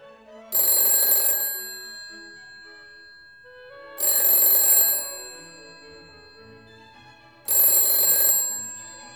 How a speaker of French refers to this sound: lorsque, tandis qu'il introduisait sa clé dans la serrure, après avoir soigneusement vérifié la position des commutateurs, résonna dans le vestibule le timbre du téléphone.